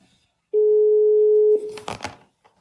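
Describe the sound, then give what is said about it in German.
A single steady telephone ringback tone sounds for about a second as a phone call is placed, followed by a brief clatter and rustle as if the line is picked up. No one speaks. “Ich versuche jetzt aber einfach mal kurz bei ihr anzurufen.”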